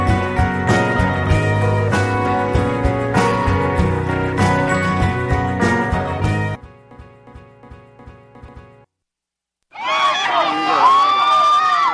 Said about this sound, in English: fans cheering outside the Santa Barbara County Courthouse on day 19 of the pop singer's trial on charges of child molestation.